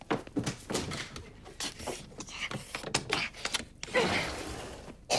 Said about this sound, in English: She panics and tries the glass door leading outside.